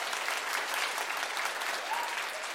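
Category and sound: crowd, applause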